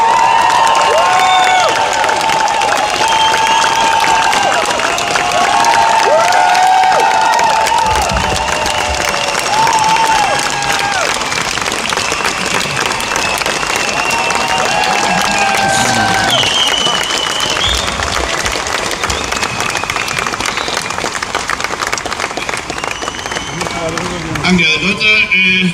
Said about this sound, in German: großen Applaus für Dieter Hallervorden.